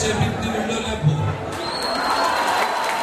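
A large crowd at a campaign event in the premises of an association of Bosnians in Bayrampaşa, Istanbul, claps and cheers steadily after the candidate translates his slogan "Tout ira très bien" into Bosnian; a dense wash of applause mixed with indistinct voices and a few shouts, sustained throughout.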